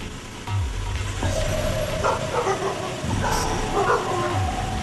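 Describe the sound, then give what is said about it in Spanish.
Dogs bark repeatedly, a busy, overlapping run of woofs and yips over a steady low rumble, like an idling vehicle. “Putos perros.”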